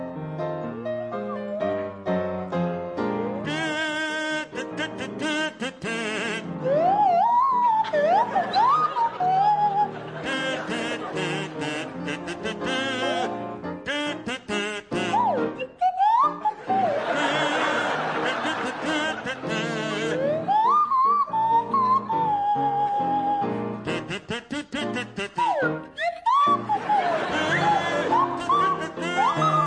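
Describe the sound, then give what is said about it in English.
A kazoo and a swanee whistle play a bouncy tune together over a steady backing, the whistle sliding up and down in swooping glides while the buzzy kazoo carries the melody. “provide a rendition of … to feature Barry Cryer on the kazoo and Graham Garden on the Swanee whistle”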